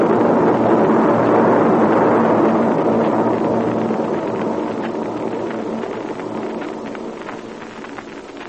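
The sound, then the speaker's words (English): Military aircraft engines roar past in a broad, rumbling drone, loudest at the start and then slowly fading as the planes move away, with no voices. “Meanwhile, let's stay right here where we are until those warbirds get out of sight.”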